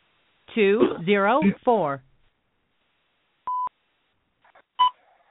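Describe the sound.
A person talks briefly, then two short electronic touch-tone beeps sound a second apart, crisp and fairly loud, as keys are pressed on a phone keypad to place a call.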